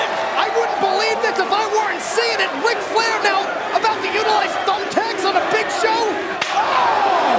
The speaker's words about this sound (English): There's that chair shot to the head. How about two of them?